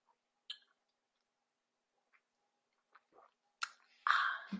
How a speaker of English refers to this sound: I'm sipping my tea because I do not care.